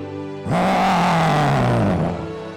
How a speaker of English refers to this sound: The roar of the lion is among you. Le rugissement du lion est parmi vous.